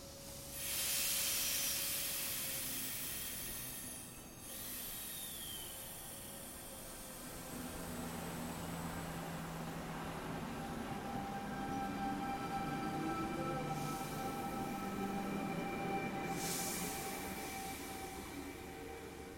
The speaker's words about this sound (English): That's the sound of my train ride ascending from Sydney all the way up to Blackheath. This episode was recorded in the Blue Mountains of Australia. My train journey was this amazing excuse to visit this beautiful place